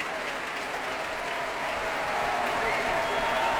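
concert audience applause

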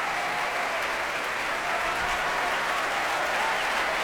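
concert audience applause

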